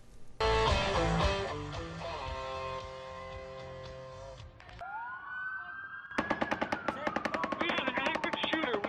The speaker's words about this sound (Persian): گلوله‌باری زمان اتفاق افتاد که مردم در یک جشنواره موسیقی در شهر لاس وگاس ایالت نوادا شرکت کرده بودند.